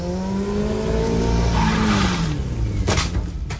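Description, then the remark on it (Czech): A motorcycle engine revs and accelerates with a rising, droning whine, then a sudden loud crash as it slams into the left front wheel of a car at nearly 60 km/h in a crash test, followed by a second clattering impact. No one speaks. “Motorka naráží takřka v 60 do levého předního kola auta a kaskadér Jan Holub přelétává kapotu.”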